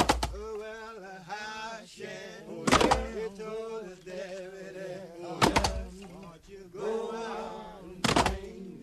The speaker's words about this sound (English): which is a recording of a group of Black men in prison chopping logs.